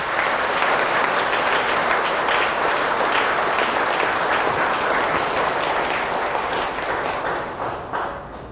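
A big round of audience applause: dense, sustained clapping from many hands, loud and steady throughout, thinning slightly in the last second.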